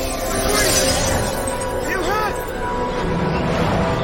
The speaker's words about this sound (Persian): شیشه ها میشکنه.